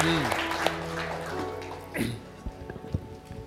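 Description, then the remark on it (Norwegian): An audience, after a prayer, claps for Jesus in a dense, crackling burst that thins into scattered claps, with voices speaking over it throughout. “Låt oss ge honom en applaus.”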